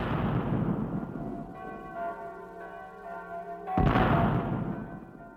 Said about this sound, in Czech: Přesně v 9.00, když jsem spatřil světlo světa, začaly vyzvánět zvony na všech kostelích, začaly vojenské parády, střílelo se, hudba hrála a prapory vlály.